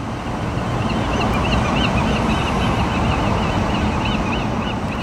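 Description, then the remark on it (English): Gulls in San Francisco call repeatedly over a steady roar of surf and wind, their short cries thin against the constant wash of the ocean. “you sent us some amazing bird songs, starting with Dee Dee in San Francisco, sending us some gulls”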